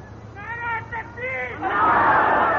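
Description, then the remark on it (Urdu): A crowd at a rally chants slogans together, loud, swelling in the last second into a dense, roaring mass of shouting. “دس ماہ ہو گئے, ٹھہرو ٹھہرو ٹھہرو, نعرے مت لگاؤ.”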